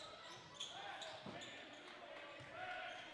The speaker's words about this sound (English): Ah, the sound of squeaky sneakers and the rubber ball hitting the floor